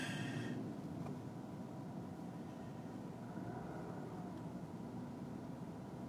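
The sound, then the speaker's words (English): Four heavy buses rumble past on a cold night, a steady, deep engine drone that stays loud and continuous throughout, with no distinct pauses and no voices. “There's all these fish buses again.”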